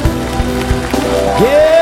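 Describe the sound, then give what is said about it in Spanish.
A church audience applauds in a steady, dense wash of clapping that holds at an even loudness, with sustained musical tones and a rising voice-like note sounding underneath. “Gracias, dale un aplauso, iglesia.”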